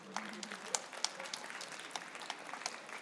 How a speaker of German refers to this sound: Applaus.